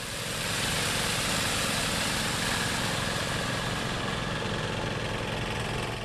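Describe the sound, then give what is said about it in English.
A small portable pump engine drones steadily and loudly for several seconds, a continuous rough mechanical hum with no breaks and no voices, as a volunteer fire crew pumps several feet of floodwater out of a Lutheran Church basement. “They started with a fire truck and moved on to a portable pump.”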